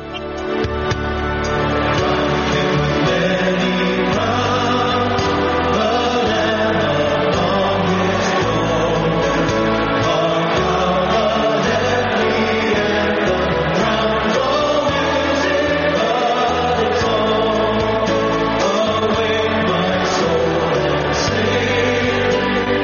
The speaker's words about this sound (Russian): Толпы, которые вы слышали в нашей заставке, это крики толпы на стадионе, но не на футбольном матче, а на 50-тысячном митинге мужской христианской организации, которая называется Promise Keepers, то есть хранители обетов